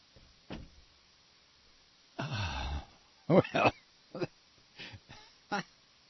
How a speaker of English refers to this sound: Let me hold on a minute. Let me shut the door.